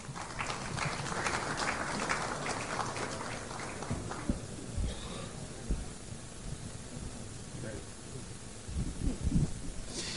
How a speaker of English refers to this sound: Our next guest is Charlotte O'Hara. A round of applause for Charlotte.